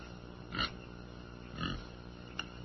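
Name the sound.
pig grunting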